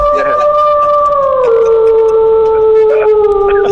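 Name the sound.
wolf howling sound effect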